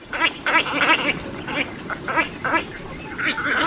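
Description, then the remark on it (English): A large, heron-sized wading bird with a long, down-curved bill gives a rapid series of hoarse, nasal, quacking grunts, about eight calls in under four seconds, fairly loud over a soft background hiss. “You know, it's a heron-sized bird, and it's got a big, long, down-curved bill.”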